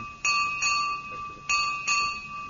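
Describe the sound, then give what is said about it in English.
A single bell is struck five times in quick pairs, each strike ringing out clear and bright with a sustained metallic tone that overlaps the next hit. “It was only one bell. Hit five times.”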